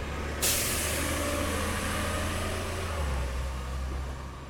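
A bus releases its air brakes with a sudden loud hiss that lingers over a steady low engine idle as passengers step off near the Butterfly Gardens Apartments, with no one speaking.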